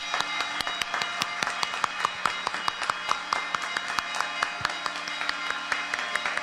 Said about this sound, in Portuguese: Agora, de pé, uma salva de palmas bem forte.